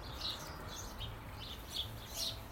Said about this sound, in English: Miss Blackbird is above me, strange. Yes, in the front garden, because she's just chased a cock blackbird out from the back. She's right above my head on the tiles, looking down on it.